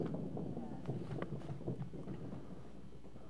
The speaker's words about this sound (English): Go ahead, stomp your feet real quick right where you're at.